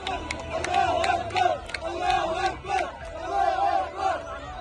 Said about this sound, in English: But first, there were celebrations in Gaza last night with news that Hamas had accepted the terms of a ceasefire agreement. In the city of Rafah, in the southern part of the strip, crowds of Palestinians cheered.